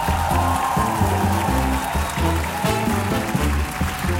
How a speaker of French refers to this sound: Et pour ça, je pense que vous pouvez les applaudir très, très, très fort.